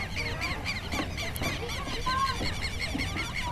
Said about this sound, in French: D'ailleurs, on peut entendre les oiseaux sauvages.